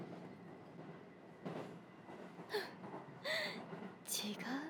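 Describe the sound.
Steady low rumble inside a moving, crowded commuter train, with louder rattling and hissing bursts near the end and faint murmured voices mixed in.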